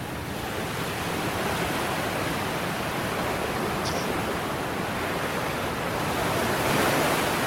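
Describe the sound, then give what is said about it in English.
Pacific Ocean surf roars steadily against the coast of Hawaii, a dense wash of breaking waves with a slight swell in loudness toward the end, no voices present. “But yes, the Pacific Ocean crashing into the coast of Hawaii.”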